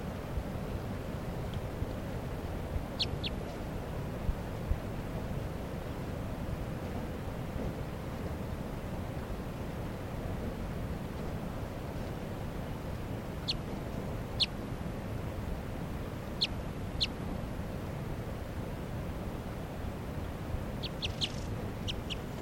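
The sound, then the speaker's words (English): A wild female crossbill, light in colour with a left-crossing bill, gives brief, sharp high-pitched chip calls in scattered pairs and small clusters, heard over a steady low rushing background of wind or water. “Wild bird. Wild bird. Left crossing bill. Definite female, real light color.”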